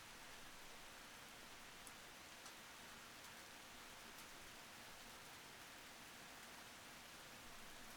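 heavy rain with wind

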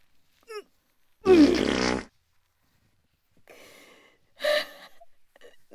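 fart

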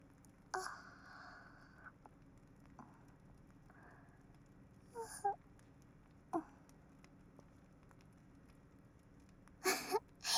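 yawning

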